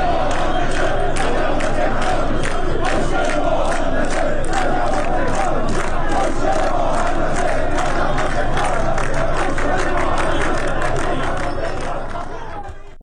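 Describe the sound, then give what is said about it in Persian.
A large crowd of protesting Tehran firefighters chants slogans in unison, demanding a decent livelihood and housing, voices rising and falling in a steady rhythmic cadence, loud and continuous throughout before easing slightly at the end. “آنها از جمله شعار دادند معیشت مناسب حق مسلم ماست و خسته ایم از وعده و دروغ نه از آتش و دود.”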